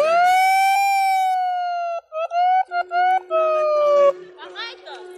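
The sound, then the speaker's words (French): The horn of a Thalys high-speed train, stopped and blocked at a station platform, is sounded from the driver's cab: a loud, steady two-second blast, then a quick series of short honks and another long one, before fading into laughing crowd chatter. “ils font klaxonner le Thalys et tout le monde est mort de rire.”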